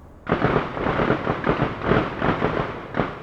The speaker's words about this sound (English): The noise of gunfire isn't from street violence. It all comes from an open-air gun range that's owned by the Cincinnati Police Department. This thing is huge, the size of about 22 football fields.